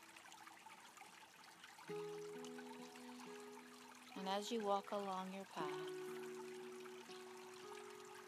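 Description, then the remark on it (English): Soft trickling creek water beside a large tree runs steadily in the background, joined by gentle sustained musical tones, while a calm voice speaks briefly midway. “you come across a creek with a large tree. And as you sit under the tree and listen to the water and my voice,”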